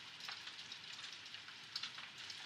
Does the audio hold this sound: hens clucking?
no